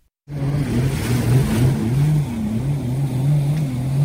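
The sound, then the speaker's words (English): Jet skis in a graduation procession on the water for Somerset Island Preparatory School in Key West roar in a loud, steady drone whose low pitch rises and dips as the throttles shift, continuing without a break and with no voices. “It was the roar of jet skis.”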